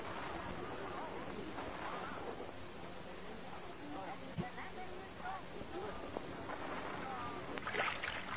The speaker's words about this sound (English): Molly, don't row the boat so fast. I can't keep up with you.